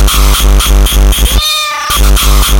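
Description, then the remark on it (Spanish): A single drawn-out cat meow rises briefly in the middle, set against a steady, loud rhythmic pulsing beat that pauses while the cat calls and then resumes. “¡Maldito gato!”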